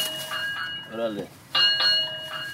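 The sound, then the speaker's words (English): A cash register at a Shell gas station off Interstate 20/59 in Birmingham's Norwood neighborhood pings like an arcade game every time someone pumps gas. Several bright ringing chimes overlap and sustain, with a short stretch of someone talking between the bursts. “It looks like your typical gas station, but the sound of the cash register stands out.”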